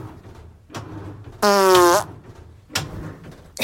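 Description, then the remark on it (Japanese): A single loud fart of about half a second from a person doing laundry, with a buzzy, tonal quality that bends slightly upward at the end, set against quiet room noise and a few faint rustles. “おなら出そうなので出していこうと思います。”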